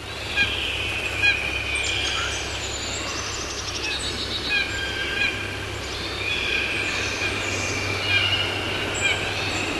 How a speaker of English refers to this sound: There's a crowd of blue jays, and some of them are making typical blue jay calls, but there's also these other sounds that are not typical blue jay sounds. They are more like an ivory bill than typical blue jay sounds.